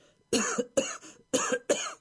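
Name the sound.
coughing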